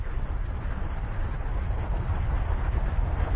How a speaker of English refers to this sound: And all of a sudden, there's this sound of like this. You can go louder with that. Come on. It's this rumbling, rushing wind kind of sound.